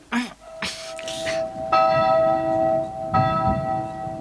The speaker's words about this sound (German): Und nun? Wir läuten die Glocken. Los, packt mit an. Helft mir.